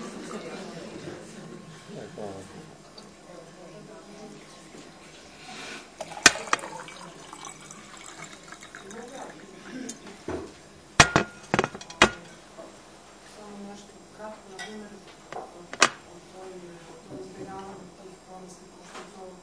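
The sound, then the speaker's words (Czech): Water is poured steadily into a drinking glass, with a few sharp clinks of glassware scattered through it and a faint murmur of voices underneath. “A ja da popijem čašu vode i još jedan od ovih kolača, kako vam kažem.”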